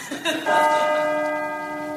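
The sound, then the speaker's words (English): The bell of the old Hibbin clock tower in Hibbin Square strikes as the clock strikes four, a loud, deep clang whose rich overtones hum on steadily and slowly fade, with a faint earlier tap just before the main stroke. “Our story begins as the clock strikes four on the old Hibbin clock tower in Hibbin Square.”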